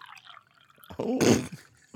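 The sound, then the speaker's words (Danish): Beer, a 2.9% Dad Strength Juicy IPA, is poured into a glass in a short burst of splashing liquid, after a moment of faint dripping and trickling, with no talking. “Det er meget bedre lyd, end jeg troede, det ville være.”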